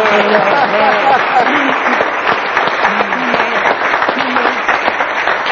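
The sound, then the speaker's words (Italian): Steady, dense clapping from an audience runs through the whole stretch, loud and unbroken, with a few voices calling out over it, applauding a tenor who is about to sing Nessun Dorma from Puccini's Turandot. “Dalla Turandot di Giacomo Puccini, signori, un applauso.”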